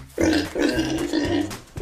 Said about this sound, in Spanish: Son los cerdos.